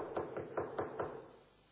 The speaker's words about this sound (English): He demonstrated his anxiety by knocking.